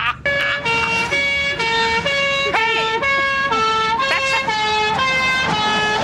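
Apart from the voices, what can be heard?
french police car siren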